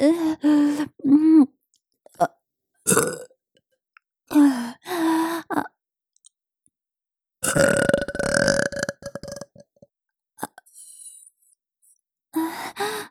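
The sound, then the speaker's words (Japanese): A series of loud burps, several short and voiced in quick succession, then one long, rumbling, drawn-out belch, separated by brief pauses and a few breathy exhalations. “ゲップ好き。”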